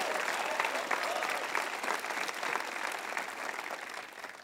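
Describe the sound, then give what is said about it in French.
A large crowd gives a morning ovation for hundreds of volunteers, a dense wash of clapping that stays loud and unbroken throughout, with a faint murmur of voices mixed in. “Allez, allez, allez, applaudissez les forces, c'est extraordinaire.”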